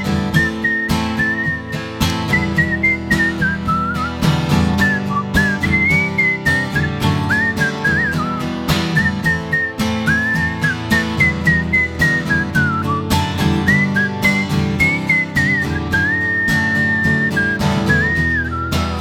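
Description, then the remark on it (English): A person whistles a wavering, tuneful melody over a full band backing of steady drums and instruments, the whistle clear and prominent throughout with no talking. “Now he just sits in his room all day, whistling every note he ever played.”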